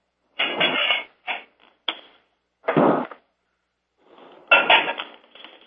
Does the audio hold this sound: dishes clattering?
yes